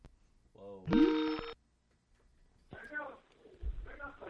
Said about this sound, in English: Whoa. Ringing off the hook.